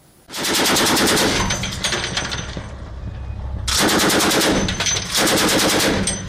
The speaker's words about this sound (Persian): تیراندازی ناوهای ایران، چین و روسیه به سمت اهداف دریایی، بخشی از رزمایش مرکب کمربند امنیت دریایی 2022 در اقیانوس هند. رزمایشی مشترک با حضور ناوشکنهایی از روسیه و چین و نیروی دریایی ارتش ایران و سپاه پاسداران.